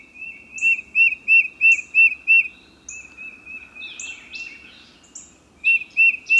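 A tufted titmouse whistles its rhythmic song, a run of about six clear repeated notes, a pause, then the pattern resumes near the end, with a few fainter chirps in between and no voices.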